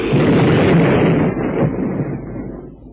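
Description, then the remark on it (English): A boat explosion: a loud, deep roaring blast that rumbles continuously and slowly fades over about three seconds, with no voices heard. “His boat blew up.”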